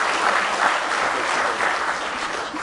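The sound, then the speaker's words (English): A standing church audience claps together in sustained applause as a hand clap of praise, a dense, steady wash of many hands with no pauses, fairly loud throughout and no talking over it. “Let's give him one more real good hand clap of praise.”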